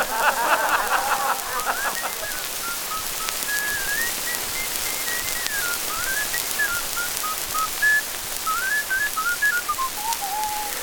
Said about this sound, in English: Hello there, soldiers. Hey, do you ever do anything else but whistle? No, sir, that's all I do.